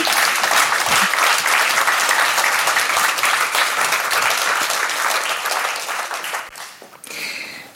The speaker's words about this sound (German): Applaus für euch. Dankeschön.